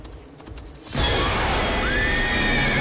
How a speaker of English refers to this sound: The horse rears and they all fall in a heap.